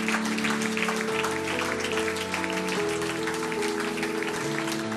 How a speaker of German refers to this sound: Hey, gib denen doch mal einen Applaus.